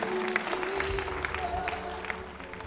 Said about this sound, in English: Come on, applaud what these folks are doing in the name of Jesus.